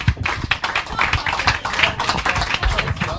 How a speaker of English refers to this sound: Yes, round of applause.